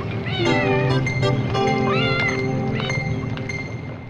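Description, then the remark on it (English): A cat meows repeatedly in rising, drawn-out cries, loud, over a steady background hum with scattered clicks and tones. “Number one, I don't think a cat would be just frolicking around by the water.”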